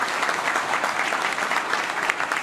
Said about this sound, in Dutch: Applaus.